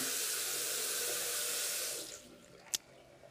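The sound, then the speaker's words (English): A downstairs bathroom tap runs in a steady, hissing stream for about two seconds, then is turned off by hand, leaving quiet with a single short click near the end. “Here's the water in the bathroom, downstairs bathroom.”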